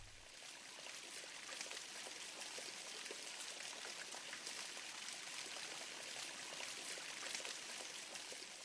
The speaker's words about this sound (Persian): صدای باران بود.